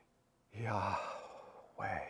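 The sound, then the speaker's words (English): A voice breathes out two airy, sigh-like syllables, a long exhale followed by a shorter one, shaping the breaths to imitate the name Yahweh pronounced without its vowels. “There's some rabbinic and modern religious thinkers that have noted that these letters, Yahweh, when pronounced without the vowels, sound like breathing.”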